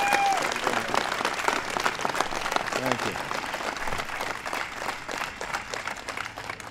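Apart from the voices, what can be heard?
audience applause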